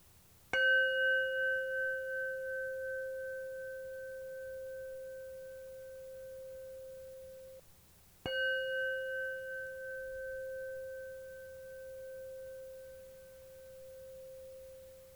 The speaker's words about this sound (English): And we'll begin by just listening to the sound of the bell as it goes into silence.